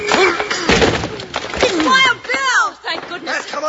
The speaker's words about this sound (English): Hey, open up. Let us in. Put your shoulder to the door, Jingles. All right. Together now.